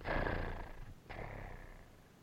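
A domestic cat with a patch of white on its chest purrs in two long rumbling, breathy strokes, one on the inhale and one on the exhale, steady and fairly loud with nothing else audible.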